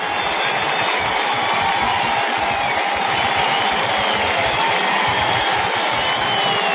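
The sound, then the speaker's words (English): A sellout arena crowd at the new Madison Square Garden roars and cheers in a sustained standing ovation as Knicks captain Willis Reed comes out, a dense, loud, unbroken wash of voices and applause with no individual speech standing out. “It's a standing ovation at the new Madison Square Garden.”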